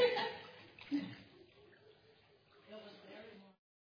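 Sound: water splashing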